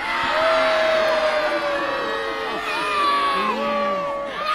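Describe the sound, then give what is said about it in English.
A crowd at a knights' fight show cheers and shouts loudly and steadily for the Black Knight to win the final point, many voices overlapping in high whoops and yells, with no single speaker standing out above the roar. “However, if you wish to cheer for a hero and a champion, then would you cheer for Sir Walter Rottesley?”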